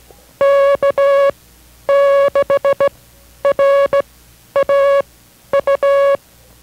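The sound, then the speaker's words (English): Morse code sent as a steady, clear-pitched beep, keyed into five quick groups of long and short tones with brief gaps between them, loud with no voices, sending a station identification during International Morse Code instruction from a station in Merced, California. “We will continue with our instruction in the International Morse Code, but first a brief pause for station identification.”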